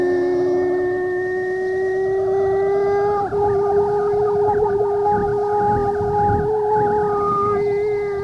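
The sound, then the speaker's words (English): A long, drawn-out howl sounds alone and loud, holding steady, then shifting pitch midway and wavering up and down as it continues without a break. “The last howl was drawn out as before. It rose and fell for perhaps a minute.”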